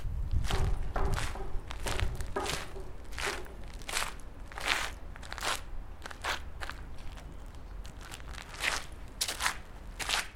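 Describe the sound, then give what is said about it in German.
Footsteps crunch over dry, crumbly paint flakes removed from a rusty dredging barge at a shipyard in Hamburg-Harburg, in a steady walking rhythm, each step a crisp crackle over a low background rumble, with no talking. “Beim näher Herantreten knirscht es unter den Füßen. Trockene, krümelige Farbreste liegen da.”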